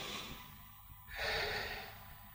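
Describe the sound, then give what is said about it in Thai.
A deep, forceful breath drawn in and pushed out, one long audible inhale followed by a strong, breathy exhale, fairly loud with no talking, demonstrating breathing harder to come out of meditative concentration. “เวลาจิตส่งสมาธิขึ้นมาแล้วเราอยากออกนะเราใช้อารมณ์ที่หยาบเปลี่ยนอารมณ์ให้หยาบขึ้นเช่นหายใจให้แรงขึ้น”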